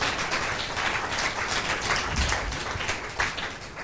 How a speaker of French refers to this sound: Puis on l'applaudit bien fort, parce que c'est courageux, hein, de venir devant.